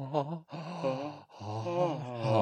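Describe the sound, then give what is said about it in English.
A person imitates a snore with raspy, voiced breaths, three drawn-out groaning pulls separated by short gaps, fairly loud with no other sounds. “I have to include my vocal cords in every breath. And that's his beautiful voice coming through in his snore.”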